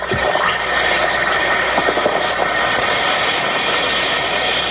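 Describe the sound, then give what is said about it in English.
A steady, dense fizzing hiss of an Alka-Seltzer tablet dissolving in water, full of tiny crackling pops, holding an even loudness throughout with no voices. “Listen to it fizz.”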